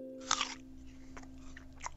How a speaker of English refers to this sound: You're listening to the eating of a Macintosh apple.